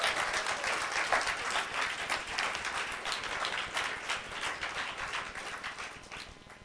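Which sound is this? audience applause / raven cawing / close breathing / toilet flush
audience applause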